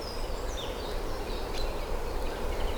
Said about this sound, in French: Durant 30 minutes, votre radio va déambuler par les chemins. Les chemins. Une forêt.